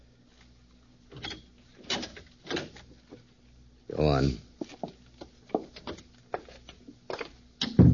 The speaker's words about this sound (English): The door was unlatched.